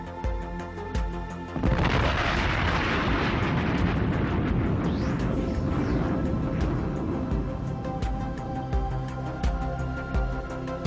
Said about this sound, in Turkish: Ardından bu nokta şiddetli bir patlamayla yarılıp ayrılmıştır.